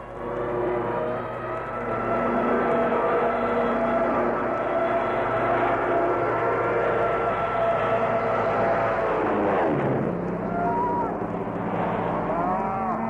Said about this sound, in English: Darn if I can hear anything. I'm deafened by those planes.